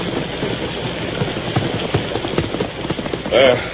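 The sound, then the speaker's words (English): Horses' hooves clip-clop at an uneven pace, several horses, among them Silver and Victor, being led together into a barn after riding through a storm, over a steady muffled background, with a brief louder clatter near the end. “Head directly for the barn. We'll take care of the horses.”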